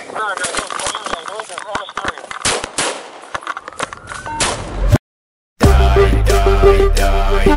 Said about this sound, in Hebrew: אני מדבר מכיכר המשטרה בחדרה, יש פה יריות. יריות, חורים.